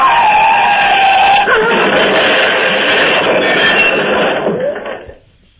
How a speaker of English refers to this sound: The car is crushed against one of the cylindrical bridge supports, rammed against it head on. And my lady and I are jammed inside, cut and hurt.